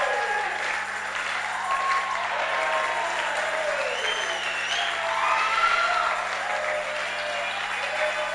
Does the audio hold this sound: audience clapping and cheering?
yes